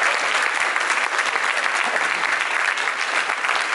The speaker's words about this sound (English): Can we have a round of applause for the cannabis lawyers?